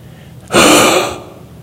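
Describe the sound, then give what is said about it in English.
A single sharp, breathy gasp bursts in suddenly in the dark after a light is turned out, fairly loud, lingering for under a second before fading into quiet; no one speaks. “But if this light goes out, and he turned the light out, you couldn't hear anything except people gasping for breath.”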